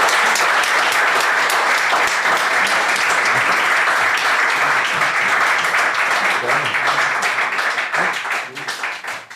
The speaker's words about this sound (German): Danke, lass mal hier ein bisschen Applaus hören.